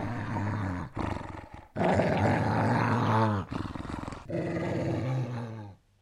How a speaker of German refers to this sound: Drei hungrige Wölfe liefen vom nahegelegenen Wald herbei und umschlichen drohend den lieben Augustin.